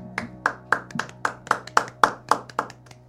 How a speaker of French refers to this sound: Des applaudissements dans le studio.